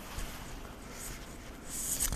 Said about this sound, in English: Now it is this. Just anything to delay me. I'm snipping off a thumbnail.